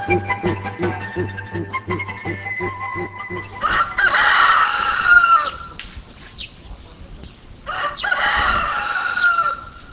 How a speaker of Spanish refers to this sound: A nuestro destino llegamos en la mañana, dándonos la bienvenida el cantar de un gallo. Su kikiriki nos ayudó a olvidar por un momento el bullicio capitalino al que estamos acostumbrados y disfrutar de la tranquila vida de las zonas rurales.